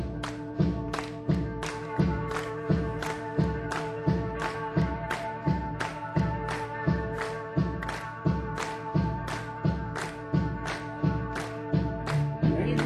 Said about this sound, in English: Won't you help us all out, please, and clap your hands.